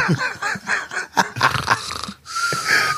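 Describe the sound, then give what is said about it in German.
A voice imitates loud snoring in rough, rasping bursts, a few wheezing snorts in quick succession ending in a long, breathy exhale, loud with no other sounds. “Nee, und vor allem, wenn du im Garten schläfst und alle Nachbarn haben die Fenster auf Halbklapp und du bist der Einzige, der da schnarcht.”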